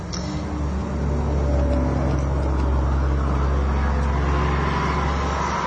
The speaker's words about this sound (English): We're just letting the trucks go by. Oh, lorries. I love that word. We're letting the lorries go by.